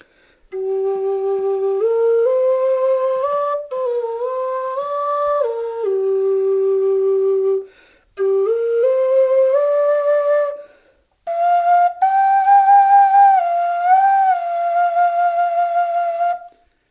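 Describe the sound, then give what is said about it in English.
A handmade Native American style flute plays a slow, breathy melody in three sustained phrases with brief pauses between them, clear, with no talking. “And I make a Native American style flute.”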